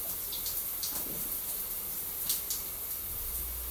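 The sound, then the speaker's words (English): Shower water runs in a steady, even hiss, broken now and then by brief splashy bursts as droplets strike. No one speaks. “Since I'm in the shower.”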